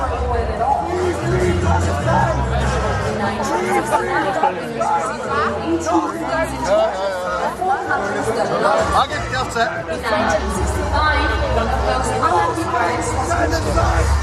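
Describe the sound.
A large crowd fills an arena with dense, continuous chanting and shouting, a loud, steady wall of many voices that never drops away across the whole stretch.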